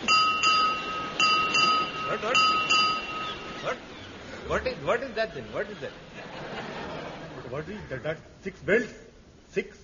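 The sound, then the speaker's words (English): A ship's bell strikes six bells: a short series of clear, resonant strikes with ringing overtones, then fades as people begin talking and chuckling. “What is that? Six bells.”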